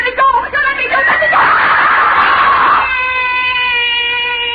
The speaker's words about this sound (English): Why am I screaming? Just a dream. I'll stop screaming.